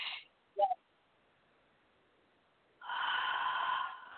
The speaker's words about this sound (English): I'm like releasing a bunch of gunk and junk mm-hmm. By breathing deeply. I'm doing like the deep breathing and releasing.